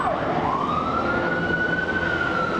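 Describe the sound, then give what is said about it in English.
A police siren wails steadily outside a school, its tone sweeping up and holding high over loud, dense street traffic noise, with no one speaking. “We're standing outside of your school and there are police sirens going by, a police helicopter.”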